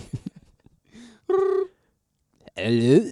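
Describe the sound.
A single steady electronic ringing tone of an outgoing phone call to a singer sounds through the line, followed after a short pause by a voice answering, with faint murmurs at the start.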